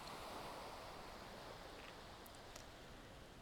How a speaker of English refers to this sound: Enjoy the sun, enjoy the breeze, and enjoy the sound of the waves gently lapping to the shore.